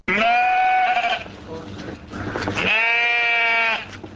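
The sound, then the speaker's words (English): Breeding ewes with single words of a poem sprayed on their backs in aerosol paint bleat loudly in two long, wavering calls, with a rougher, quieter bleat between them; each call is a nasal, quavering cry rich in harmonics. “The bard might have thought the poetic concept wholly woolly, but armed with aerosol paint sprays, Valerie Laws has written single words of a poem on the backs of 15 breeding ewes.”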